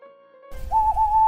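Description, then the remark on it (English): A Scops owl gives a single sustained, whistle-like tonal call that rises and holds steady over a low background rumble, with no voices. “Again the owl, the crying of the Scops owl.”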